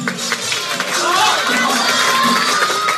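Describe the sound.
A loud crowd cheers and shouts encouragement to a young writer who freezes during a timed writing contest, a dense wash of many voices with some clapping and whistle-like calls rising through it, sustained for the full few seconds.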